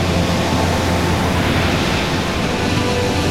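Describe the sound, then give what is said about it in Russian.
A loud, continuous roar of churning water as a large wave crashes over a boat during a storm at sea, filling the whole moment with dense hissing spray and no voices. “Фома, оглянись! Нас волна накрывает!”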